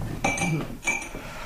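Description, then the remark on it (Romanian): Two bright glass clinks about half a second apart, moderately loud, as a glass of cold water is served, with a faint murmur underneath. “Un pahar cu apă rece?”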